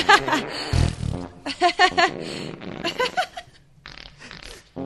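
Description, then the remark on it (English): A person imitates farts with the mouth, blowing a string of wet, sputtering mouth-fart noises in several rapid bursts, with laughter breaking in between them. “Can you make fart sounds?”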